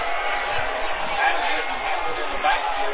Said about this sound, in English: And wow, you hear a little bit of grumbling from the crowd about maybe a late hit